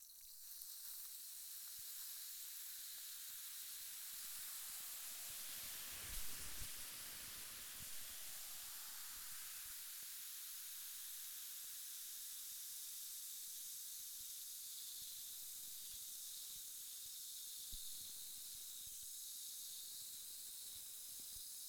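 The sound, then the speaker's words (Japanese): Continuous carbonated fizzing of sparkling water used to wash an ear, a dense bright hiss of tiny popping bubbles that swells briefly then settles into a steady, even sizzle with no voices. “シュワシュワと炭酸の音がするけど、そのままゆっくりくつろいでいてね。”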